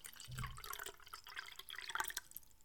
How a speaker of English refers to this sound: Now let's take a beat and I'm going to pour open this nice cold glass of water and open up today's file.